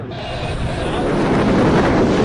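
A fast attack speedboat, the 16-metre Zolfaghar boat of the IRGC navy travelling at nearly 120 km/h, roars across the water. Its engine and the rush of spray and wind form a loud, steady wall of noise throughout.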